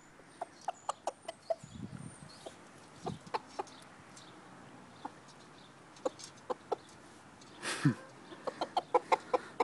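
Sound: rooster clucking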